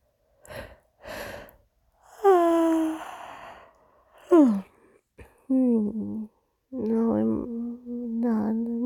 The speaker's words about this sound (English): I'm only yawning because you're yawning, and not yawning because I'm tired. I'm yawning because of you. Because you're tired.